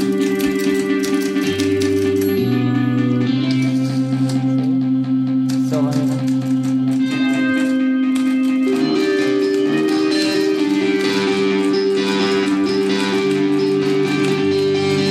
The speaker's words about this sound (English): So you can see these two. See when you add different elements to the mix. Here's the typewriter, and here's like another rock guitar that's going on under it.